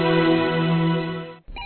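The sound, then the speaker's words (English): A telephone rings in an apartment with a steady, buzzy electronic tone that holds for over a second, breaks off briefly, then starts again. It sounds fairly loud, with no one talking. “she receives a phone call from Richmond.”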